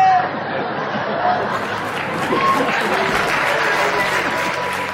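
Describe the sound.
Steady applause from an audience in Molenbeek, a dense, continuous wash of clapping with crowd chatter and voices mixed in throughout, holding at a fairly loud, even level.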